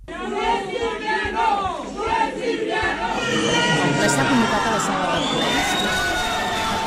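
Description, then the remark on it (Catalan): About 200 people shouting and jeering together at a tense Tuesday-evening town council plenary meeting in Torelló, Osona, Catalonia, a loud, continuous roar of overlapping yells that grows more intense and sustained in the second half, with no single voice standing out. “Així s'escoltava la tensió del ple que va esclatar dimarts al vespre, ple municipal d'aquest poble de 15.000 habitants de la comarca d'Osona”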